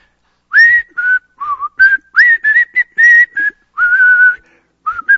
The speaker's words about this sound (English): And we just go on whistling, I'll fly away.